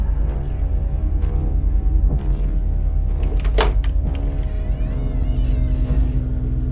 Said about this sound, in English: Wearing an apprehensive expression, she paces toward the entrance to her home. She opens the front door.